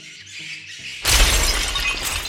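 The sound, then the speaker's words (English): The door of a floral shop is smashed in as cultists storm the shop: after a second of low, quiet tones, a sudden loud crash bursts out, followed by a sustained roar of shattering and splintering debris. “My door! Dude, you're gonna pay for that!”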